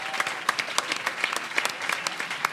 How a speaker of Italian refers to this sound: Un applauso ai trascinati, subito, vai!